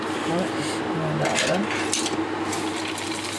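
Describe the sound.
Hulled sesame seeds, then pumpkin seeds and sunflower seeds, are poured into a metal saucepan in a steady rattling hiss, with a brief denser patter partway through. The sound is fairly loud, and a faint voice murmurs underneath.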